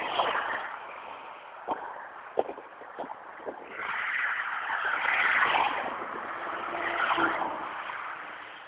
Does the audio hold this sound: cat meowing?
no